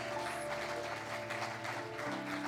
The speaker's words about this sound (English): Let's all clap our hands to the Lord this morning and give him a hand clap of praise.